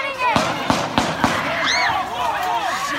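gunshots

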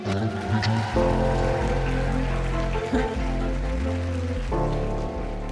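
audience applause

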